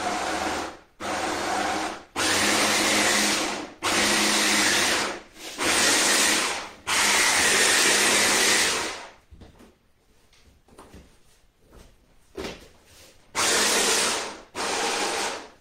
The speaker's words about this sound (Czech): Takže teďka všechny tyhle suroviny dám do mixéru. Toho jitrocele mám asi takovouhle větší plnou hrst. Nasypu to do mixéru a přidám tam trochu vody, asi tak 100 ml. A pořádně rozmixuju.